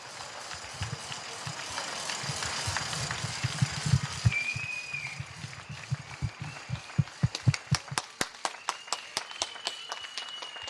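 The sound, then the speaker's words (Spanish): Dense, sustained applause from many people on balconies in Madrid, a tribute to health workers, with scattered cheers and a whistle, thinning toward the end into a few sharp, rhythmic individual claps. “Amigos oyentes, un día más el emocionado homenaje de Madrid a nuestros sanitarios y a todos aquellos que están haciendo lo que tiene que hacer una ciudad para que no se atasque y se bloquee.”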